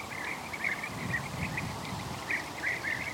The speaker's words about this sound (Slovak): A to, čo počujeme, to štebotanie, tak to sú oni, tie včelári. Počkaj, teraz ticho.